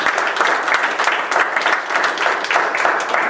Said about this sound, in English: Give Jesus a hand of applause.